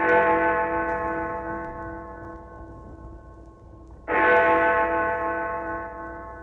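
Big Ben's great bell in London strikes twice, about four seconds apart, each stroke a deep, loud, rich tone with ringing overtones that hum and slowly fade before the next. No voices.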